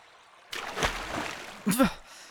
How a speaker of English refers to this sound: Whoa. Now I know you did not just splash me.